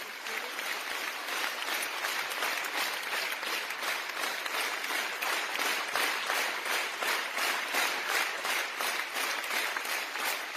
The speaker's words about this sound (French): S'en est suivi à la fin une ovation, 1500 personnes qui applaudissaient dans une salle où l'émotion était au rendez-vous.